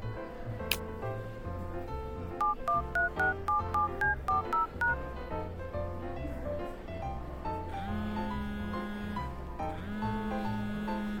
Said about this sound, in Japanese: 電話が鳴っていますよ。先に出たらどうですか？